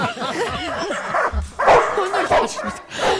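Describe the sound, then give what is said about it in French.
Pit bulls bark and whine excitedly, several loud yaps tumbling over each other in quick, uneven bursts, with high whimpering cries threaded between the barks. “tu lui mets son calcif sur la tête et on lâche les pitbulls.”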